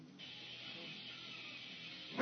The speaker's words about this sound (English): We're listening to some music in the background, and Linnea just barked. I don't know why. Because she's a dog.